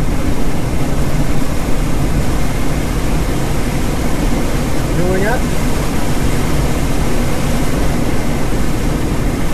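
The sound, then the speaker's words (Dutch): A loud, steady rush of wind roars past a glider in flight about 100 feet above the ground, continuous and engine-like for the whole stretch, with a brief spoken remark rising over it midway. “Even tussendoor ook melden dat het razende geluid dat je hoort klinkt als een motor, dat besef ik, maar het is eigenlijk gewoon de wind die langs het zweeftoestel raast.”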